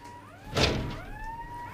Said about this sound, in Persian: بابا یه گندی زدی صدا این در اومده دیگه. من از کجا بدونم صاف امروز اینا دزدگیر نصب میکنن